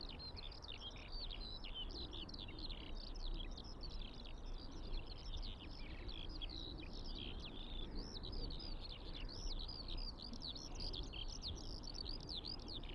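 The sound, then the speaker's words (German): A skylark sings in flight, pouring out an unbroken stream of rapid, high warbling trills and chirps at steady volume, with a low outdoor rumble underneath and no voices. “Wenn die Feldlerche in den Himmel fliegt, kann ich sie nur hören.”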